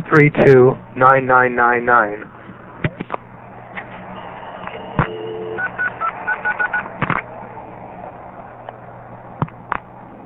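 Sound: touch-tone telephone dialing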